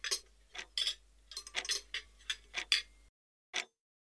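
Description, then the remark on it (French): A clock ticks steadily, a run of crisp, evenly spaced clicks that pauses briefly before one last tick sounds alone. “Le tic-tac de l'horloge la déconcentre un court instant de sa mission.”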